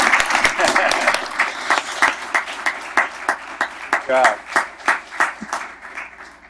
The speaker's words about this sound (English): Yeah, let's hear it. We always clap.